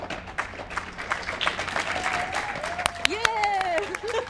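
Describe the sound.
At a meeting's award ceremony, a crowd claps steadily for several seconds in a dense, continuous patter of applause, while a few voices whoop and call out over it toward the end, as a woman rushes forward to collect an award for her speech.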